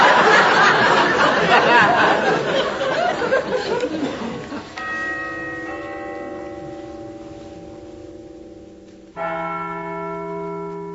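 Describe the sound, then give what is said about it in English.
A clock bell strikes one o'clock with a resonant, ringing tone that slowly fades, then sounds again a few seconds later, following a noisy burst of voices and laughter. “Goodness sake, 1 o'clock.”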